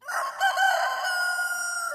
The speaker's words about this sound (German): Das war eindeutig das Krähen eines Hahns.